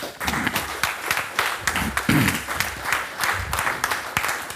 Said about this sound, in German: Weiß noch nicht, wie wir ihm dann den zweiten Applaus geben.